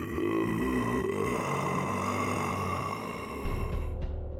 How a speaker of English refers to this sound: A low groan followed.